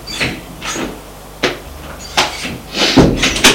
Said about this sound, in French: Au dernier étage, ils ouvrent une porte